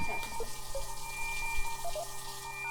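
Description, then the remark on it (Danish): A tap runs in a steady, continuous stream, filling a glass with water, with a soft splashing hiss and occasional bright droplet sounds. Fairly quiet, with no voices. “Jeg vil virkelig gerne have et glas vand.”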